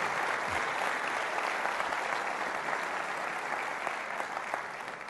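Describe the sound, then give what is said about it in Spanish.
Sustained applause from a sizable audience for public servants, a dense steady patter of many hands clapping at once, holding strong for several seconds before easing slightly toward the end. “Ustedes se merecen un fuerte aplauso.”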